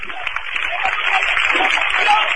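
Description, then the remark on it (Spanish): A large crowd applauds a procession float (paso) of the Coronación brotherhood carried by costaleros, a dense wash of clapping that holds at an even, fairly loud level throughout, with a thin, broadcast-like tone and no voices standing out. “Escuchen el aplauso.”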